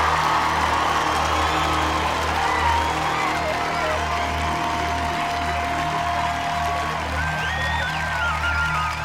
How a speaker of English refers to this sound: Come on, Ahus, put your hands together and make some noise!